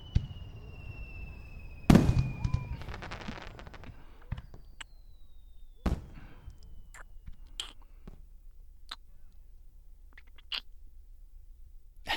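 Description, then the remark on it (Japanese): Fireworks go up with faint whistles, one after another, then several sharp booms burst at intervals, trailed by crackling sparkles, with quieter pops continuing between them. “花火見ないの？どんどん打ち上がってるよ。”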